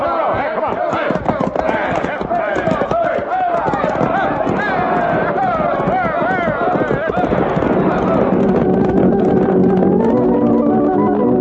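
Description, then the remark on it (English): Rapid hoofbeats of horses galloping away clatter beneath a busy wash of overlapping voices and shouting, the rhythm steady, as a marshal and deputies ride off from the town hall through the business section of town in pursuit, before the scene settles into a sustained, tonal backdrop. “Let's hit our horses and get after them.”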